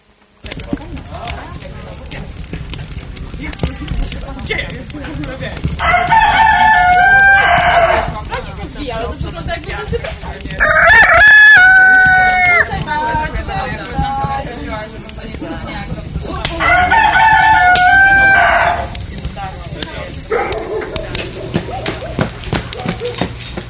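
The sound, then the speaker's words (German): A rooster crows three times, loud, each long cock-a-doodle-doo separated by a few seconds of quieter farmyard background. “Bevor der Hahn kräht, wirst du mich dreimal verleugnen.”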